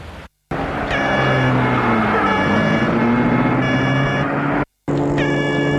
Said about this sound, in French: Et la voiture roule dans Paris.